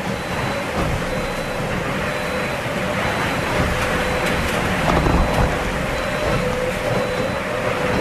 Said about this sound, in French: Une houle hachée et de fortes rafales de vent à plus de 40 nœuds. Le bateau Linked Out commence à développer tout son potentiel sonore et harmonique.